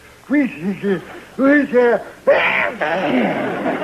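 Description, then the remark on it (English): Two wavering, voiced gasps build up before a sudden loud, breathy burst of a sneeze, which trails off into a sustained hissing noise. “Bless you.”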